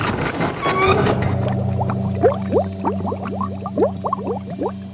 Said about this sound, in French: Raoul commence à remplir l'évier. Eau chaude, eau froide, mousse.